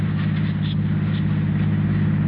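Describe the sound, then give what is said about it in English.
A steady, low engine drone of a car driving, heard continuously at an even level with a constant rumble and faint road hiss, no voices. “All right, just turn the car around and drive home.”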